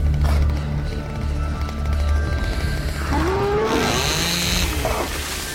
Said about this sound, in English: Joe's eyes peel wide open as he whips around manically, sawing into trees. Joe saws again as the monster lurks in the trees behind him.